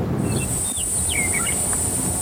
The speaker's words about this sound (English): Initially, I came here 2 years ago, and it was fascinating sounds, the birds like I'd never heard before. And I think we're starting to hear them picking up again, which is exciting for me. You can kind of hear it settling even between the wind.